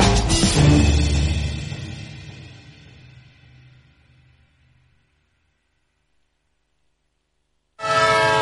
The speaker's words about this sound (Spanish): Un tren que se va. Otro tren que se le escapa a tu empresa.